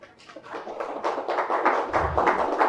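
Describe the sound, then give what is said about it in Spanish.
An audience breaks into applause to welcome a guest speaker: many hands clapping in a dense, crackling patter that swells within the first second and holds steady and fairly loud, with a soft low thump partway through. “Entonces me gustaría que la recibiéramos con un aplauso.”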